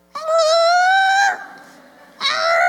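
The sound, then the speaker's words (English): A person imitates a muffled cat's meow: one long, steady, nasal-toned call lasting over a second, a softer lull, then a second meow starting. It sounds strained and voiced rather than like a real cat. “Anyways, I'm not very good at cat noises.”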